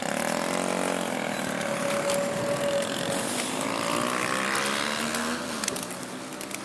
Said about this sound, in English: What is it with motorbikes? I'm not a lover of motorbikes.